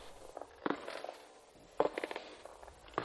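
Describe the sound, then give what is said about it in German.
Slow, wet, sticky footsteps coming down a staircase one step at a time, three heavier treads about a second apart with softer scuffing and squelching between them, fairly quiet, growing louder, with no voices. “Langsame, feuchte, klebrige Schritte, die lauter werden.”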